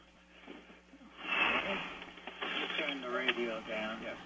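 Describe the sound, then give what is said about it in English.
A caller's radio plays in the background of a phone line to the call-in show Off the Hook, its muffled, tinny voices and sound carrying at moderate level for a few seconds with no clear talk in the foreground. “Let me turn the radio down.”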